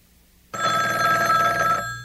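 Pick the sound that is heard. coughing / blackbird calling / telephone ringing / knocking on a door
telephone ringing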